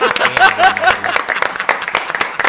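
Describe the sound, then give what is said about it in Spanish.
An audience applauds with dense, steady clapping that fills the whole stretch. A voice briefly cuts in over the applause near the start. “Yo qué hago, aplaudiendo.”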